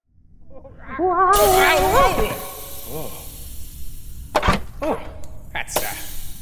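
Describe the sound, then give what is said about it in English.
A rushing, hissing whoosh of sliding down a spiral, frictionless slide swells and holds, with a voice crying out in rising, wavering exclamations over it, then several sharp noisy bursts toward the end. “Normally it's flushing, but now an executive slide.”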